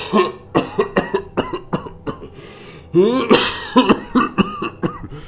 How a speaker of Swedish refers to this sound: Han inleder en fruktansvärd hostattack.